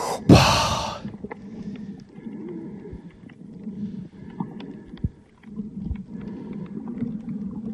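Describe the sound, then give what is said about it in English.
A loud, hissing inhale bursts out at the start, followed by muffled, bubbling underwater sounds with faint clicks and low rumbling, like heavy breathing through a regulator beneath the surface, as a person goes underwater in a canal in Freeport, Grand Bahama, the Bahamas. “watch me go underwater. You hear me breathing? Sound like Darth Vader, huh?”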